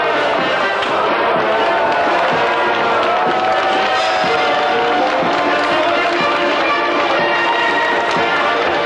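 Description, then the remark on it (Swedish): A large crowd cheers loudly and continuously outdoors at the Freedom Monument in Riga, Latvia, greeting the visiting American president, a dense roar of many voices with scattered shouts and whistles rising above it throughout. “Och han möttes med ett enormt jubel vid frihetsmonumentet idag.”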